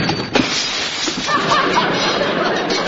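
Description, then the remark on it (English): A sharp bang of a door being slammed is quickly followed by a loud, sustained crash of the door's newly fitted glass pane breaking, rattling on for a couple of seconds. “But don't slam the door because I just put a new glass in it and it might break.”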